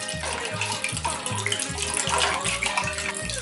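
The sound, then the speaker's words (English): A drink pours steadily into several glasses at once, a continuous splashing gurgle with a low, regular rhythmic thump running underneath throughout. “Perfect. A perfect pour.”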